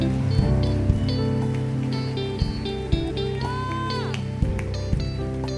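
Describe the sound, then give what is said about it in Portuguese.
A church audience claps steadily for several seconds, applauding the Holy Spirit: a dense, even patter of many hands, while sustained keyboard chords ring underneath and a few sharper claps stand out. “Aplauda o Espírito Santo que está no nosso meio aqui.”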